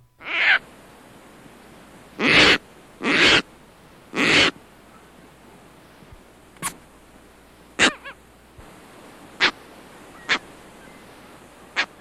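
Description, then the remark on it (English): Harsh, raucous adult Caspian tern calls: four long grating caws in the first half, followed by several shorter barking notes spaced irregularly, loud with no talking. “Adults utter a raucous cow, sometimes shortened to a bark like cow.”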